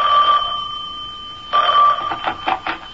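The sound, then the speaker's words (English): A telephone rings in short trilling bursts inside a house, with a pause between the first two rings and then quicker pulsing chirps, fairly clear with no one speaking. “I was barely settled into my mother's house when the phone rang.”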